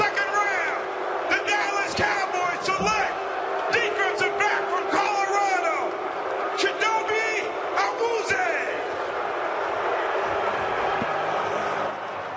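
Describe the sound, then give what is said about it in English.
A large stadium crowd boos loudly, a dense wash of voices punctuated by sharp individual shouts, holding steady for several seconds before easing slightly toward the end. “The booing, did you see how the booing ramped up?”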